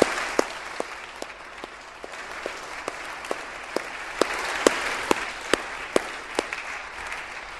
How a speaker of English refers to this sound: So let's join together and give them a big round of applause, which they deserve.